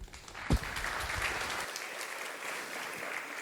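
An audience applauds steadily to welcome a speaker who has come from Vienna, a dense wash of many hands clapping at even volume for several seconds, with one sharper low thump near the start and no talking.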